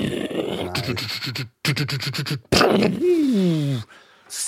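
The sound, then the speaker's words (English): A voice imitates tank battle sounds: a run of rapid, stuttering bursts like gunfire, then a long rough roar with a falling, whining tone, trailing into a soft hiss. “You're like beatboxing, but for World War II.”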